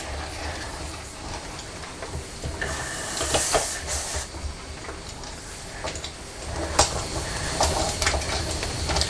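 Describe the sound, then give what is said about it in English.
A small toy train with magnetic couplings rattles and clicks steadily along a plastic track, going up onto a bridge, with faint ratcheting and ticking textures and occasional sharper clacks, fairly quiet, no one speaking. “Is the whole train going up on the bridge?”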